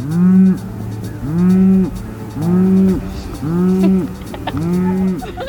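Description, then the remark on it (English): Cows moo in a steady series, five long, low, nasal calls in quick succession, loud, in the small agricultural town of Cullman, Alabama, with faint bird cooing in the background and no talking. “We saw tractors, horses, and some cows.”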